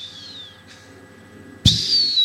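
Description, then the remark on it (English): A person imitates a hawk's call: a high, thin whistle slides downward and fades, then after a brief pause a second, louder shrill cry bursts in sharply and holds to the end. “No, that's a hawk.”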